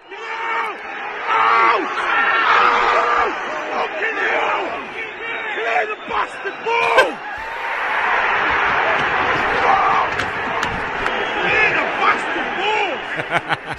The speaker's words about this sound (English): He's screaming, clear the bastard ball, literally as the ball is in the air from McAllister's foot onto the head of Darwin Núñez. Ugh. The ball, you can then hear the cheer from the Liverpool fans.